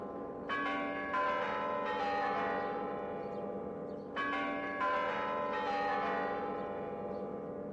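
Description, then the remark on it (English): The clock tower chimes of the Spassky Tower at the Moscow Kremlin, Russia, ring out in a slow melodic phrase of three notes, then repeat it, each tone sustaining and overlapping as it decays. The bells are fairly loud and there is no talking. “The melodious chimes of the clock tower are well known all over the world.”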